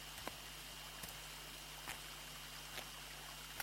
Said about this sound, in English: And I'd like to sit beneath this old plane tree and listen to the sound of Atashgah Waterfall.